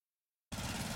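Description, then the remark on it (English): Silence for the first half, then a lawn mower engine starts abruptly and runs loud and steady as someone mows the lawn on a blazing hot, dry day, a rough, buzzing drone with a low rumbling throb underneath. “I'm just mowing the lawn.”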